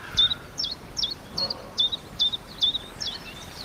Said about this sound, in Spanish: Pero ayer un mosquitero común, que es este pajarito que tiene este canto sincopado, a ver si este, estaba en plena efervescencia por la mañana.